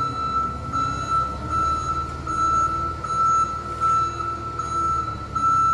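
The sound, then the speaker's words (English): A forklift truck's high-pitched reversing beeps sound steadily over a loud, rumbling engine and machinery drone at the Newport Chemical Depot, as it places an empty refrigerator-sized VX canister into a chemical agent transfer system for a demonstration; no talking. “The process starts when a forklift truck places one of the refrigerator-sized canisters of VX, an empty canister for this demonstration, into what's called a chemical agent transfer system, or CHATS.”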